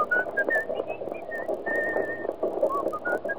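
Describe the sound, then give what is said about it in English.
Someone whistles a bright, wandering melody of short and held notes, clear, over a faint background murmur with what could be light hoof-like clopping. “What's that tune you're whistling?”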